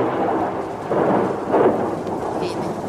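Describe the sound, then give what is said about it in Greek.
A steady wash of heavy rain over a small town during a storm with hail and gale-force wind, with deep, rolling thunder swelling up loudly twice, the rumbles blending into the downpour without any voices. “Αστραπές και βροντές αστράφτουν και βροντάνε η μια μετά την άλλη.”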